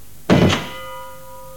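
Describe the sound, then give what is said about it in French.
A door shuts with a single heavy thunk, followed by a faint metallic ringing that lingers and slowly fades. No one speaks. “Vous avez sur un track le bruit de la porte.”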